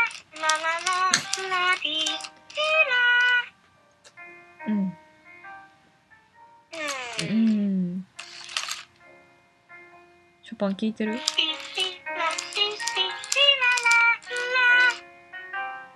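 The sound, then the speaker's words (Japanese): An electronic Furby toy chirps and babbles in bursts of high, warbling, sing-song tones, with short pauses between spurts and a squeaky, speech-like quality throughout. “あ、ファービーかな。”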